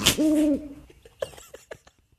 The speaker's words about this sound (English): I'm playing a sound effect right now. You know what it is? It's an a big owl?